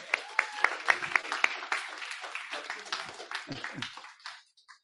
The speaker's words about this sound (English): Let's give a clap.